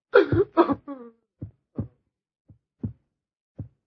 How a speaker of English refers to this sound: Listen to the heart beat its last beat. It's dead. It's dead.